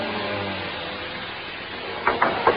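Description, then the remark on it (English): A steady mechanical rumble of an elevator runs for a couple of seconds, then three sharp metallic clunks in quick succession as it halts at a floor and the doors begin to open. “He kept grinning at me as I stepped out of the elevator.”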